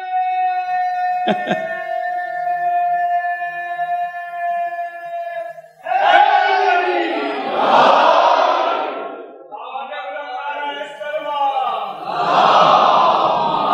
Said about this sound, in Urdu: جزاک اللہ بھائی. میں نعرے وارے لگواتا نہیں ہوں لیکن ایک ذرا سہارا مل جاتا ہے نا، ڈھارس ہو جاتی ہے کہ ہاں آپ لوگ بیدار بیٹھے ہیں